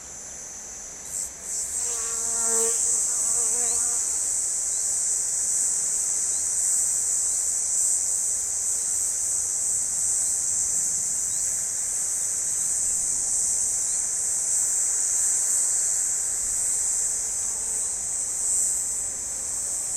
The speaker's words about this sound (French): Benoît nous propose un concert en plein soleil de cigales rouges